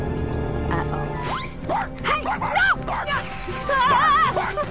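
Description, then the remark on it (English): A male dog barks and whimpers in a series of high, wavering yelps and whines, fairly loud, with a rising excited run of cries near the end. “My own dog thinks I'm a hamster.”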